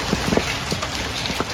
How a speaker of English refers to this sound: Hail falling in Austin, Texas, previewing dangerous storms spreading in the south.